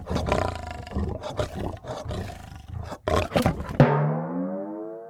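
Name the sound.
lion roaring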